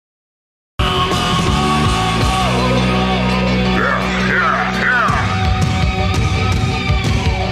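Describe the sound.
A loud, driving rock song with a dense, full band sound and a shouted, yelling vocal line over it, playing continuously after a brief moment of silence at the start.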